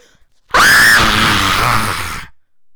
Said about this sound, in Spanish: Perdón por el grito, pero.